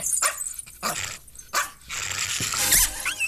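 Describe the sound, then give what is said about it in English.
A dog yelps in several sharp, loud bursts as it is kicked into a fan, then lets out a higher strained squeal and whimper as a noisy whooshing rush fills the background. “He punts the dog into a fan in the first minute of the film.”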